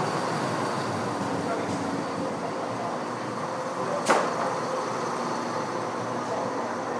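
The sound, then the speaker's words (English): The 1651 East Coast service to Leeds rolls into platform 4 with a steady, broad rumble, and a single sharp metallic clank cuts through about halfway. Faint voices murmur beneath the noise. “There you go, just coming in now.”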